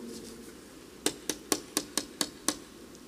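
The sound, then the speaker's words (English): Seven quick, sharp knocks on the front door of a little rental house in Greenville, Texas, early in the morning, in a steady, even rhythm, each a crisp rap against a quiet, faintly humming background with no talking. “Bruce said, "That's the door."”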